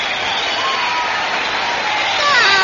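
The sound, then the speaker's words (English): Thin, tinny applause and crowd cheering played from a gramophone record as a signal holds steady for a few seconds, with a few shrill whistles rising near the end. “Signals applause on gramophone record.”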